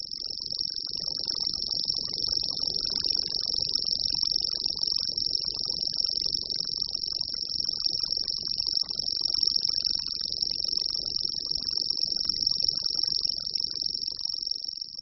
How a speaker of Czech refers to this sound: Hlas, který jsme právě slyšeli, není vydáván žádným zástupcem říše hmyzu, i když velice připomíná hmyzí cvrčení. Jeho původcem je cvrčilka zelená, drobný šedozelený ptáček z řádu pěvců.